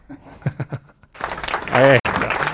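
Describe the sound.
A few soft, evenly spaced thumps, then a sudden burst of dense crowd applause with a voice whooping over it, continuing loudly to the end.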